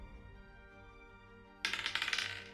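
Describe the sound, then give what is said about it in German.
Dice clatter across a hard tabletop in a quick burst of rattling clicks, fairly loud, ending after about a second, rolled for an Athletics check against an opponent's Fortitude. There is no talking. “Ich würfel Athletics gegen die Fortitude vom Gegner. Jawohl. Genau, das mache ich jetzt mal.”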